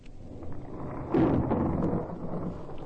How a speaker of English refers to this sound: Hear that? Thunder. A storm out there somewhere.